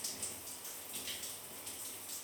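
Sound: warm shower water running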